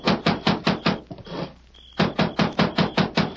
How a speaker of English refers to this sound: Consequently, he was surprised one night to be roused from his sleep by a loud pounding on the cabin door.